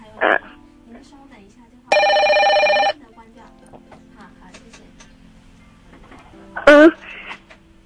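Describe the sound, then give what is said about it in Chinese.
A loud telephone bell rings in one steady burst lasting about a second, with a brief electronic blip before it and a sharper chirp later, over a quiet murmuring background. “等一下就开始讲了，电话铃声以后。”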